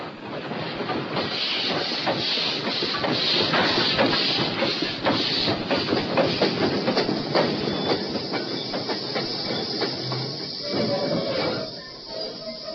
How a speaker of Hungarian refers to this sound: Csak, hogy már jön a vonat.